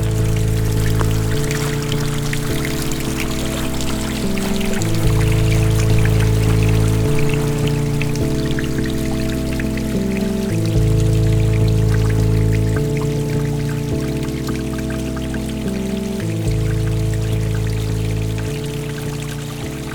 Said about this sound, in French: Humidité, senteur des bois, enchanté par le doux clapotis de l'eau.